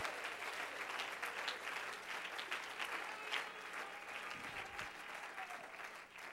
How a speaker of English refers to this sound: Clap your hands and lift your voice. And magnify him.